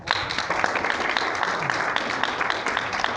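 A crowd applauds steadily for about three seconds, a dense, even patter of many hands clapping at a constant loudness.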